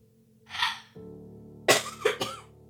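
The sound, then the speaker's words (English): A person clears their throat with a breathy rasp, then lets out three quick, harsh coughs in a row, with no talking. “Had to cough for a moment.”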